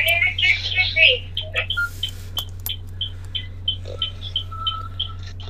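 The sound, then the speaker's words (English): A phone clatters as it is dropped, giving a few sharp knocks over a steady low hum and scattered high chirping tones. “That was just me dropping my phone.”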